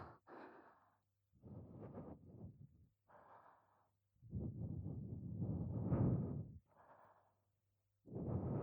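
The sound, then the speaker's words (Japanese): A series of soft, airy breaths blown close to the microphone one after another, some short puffs and one long drawn-out exhale, separated by brief pauses with no speech. “では吐息も、”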